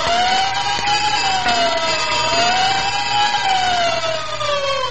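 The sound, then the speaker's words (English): A loud fire engine siren and bell, the signature sound of the Texaco Fire Chief radio program, wails steadily, its pitch rising and falling in slow sweeps over a low engine rumble, continuous throughout with no talking. “And whenever you hear the siren and bell, think of Texaco Fire Chief Gasoline.”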